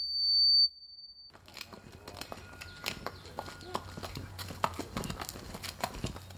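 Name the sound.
horse hooves clip-clopping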